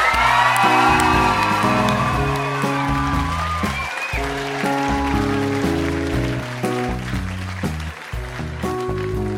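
Loud, sustained audience applause with a few whoops and cheers, rising over an upbeat musical bed of stepping bass and keyboard notes, easing slightly toward the end.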